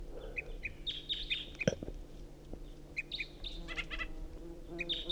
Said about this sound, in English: Recording, this is the second singing bird. Decoys are also calling, especially 327.